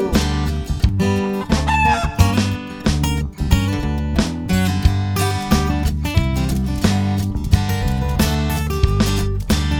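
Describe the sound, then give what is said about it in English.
Chicken clucks pop up repeatedly within a loud, bouncy rendition of the nursery song Old MacDonald Had a Farm, the short clucking bursts mixed among steady instrumental backing and percussion. “And on that farm he had a chicken, E-I-E-I-O. With a cluck cluck here and a cluck cluck there, here a cluck, there a cluck, everywhere a cluck cluck.”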